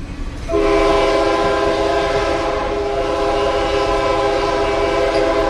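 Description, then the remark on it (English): A passenger train on the Panama Railway, which runs across the Isthmus of Panama between Panama City and Colón, blasts a loud, steady horn that starts after a brief rumble and holds for about five seconds, with a low mechanical rumble underneath and no voices. “Ever since 1855, the Panama Railway has been shuttling passengers across the Isthmus of Panama.”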